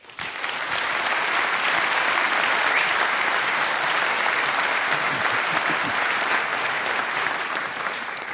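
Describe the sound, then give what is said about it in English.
A large audience claps steadily to welcome a speaker to a talk on breaking NATO radio encryption, a dense wash of applause that swells quickly and holds at full strength for several seconds, tapering only slightly at the end. “Please welcome him for a huge round of applause.”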